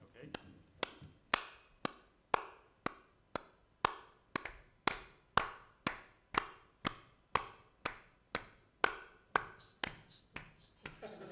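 Two people clap their hands together in a steady rhythm over a remote audio link to Trondheim with almost 40 milliseconds of latency, about two sharp, crisp claps per second, continuing for roughly twenty beats at an even volume.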